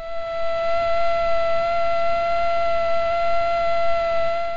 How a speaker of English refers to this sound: Cornell University entomologists Laura Harrington and Lauren Cater explain that male and female mosquitoes' wings normally beat at very different frequencies. Here's a male alone.